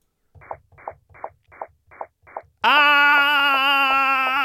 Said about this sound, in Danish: Er det ikke meget sjovt, at man kan høre? Jo, det synes jeg er sjovt. Altså, når jeg sidder og lytter til dem, så synes jeg, jeg kan høre forskel på tomat og tobak. Det er måske lyden af planter, der skriger det her, Mark.